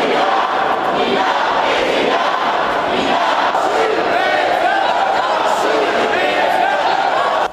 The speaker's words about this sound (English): Angry crowds have gathered in front of the police headquarters in New York, calling for an end to police brutality in Ferguson. Protests have been set up by the People's Power Assembly organization.